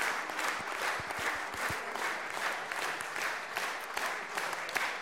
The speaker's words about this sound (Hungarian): Nagyon szépen köszönöm a megtisztelő tapsukat, és ez nem demagógia lesz, hanem véresen komolyan így gondolom. Minden taps annak a költőnek szól, akinek az életművében ma gyönyörködhettünk.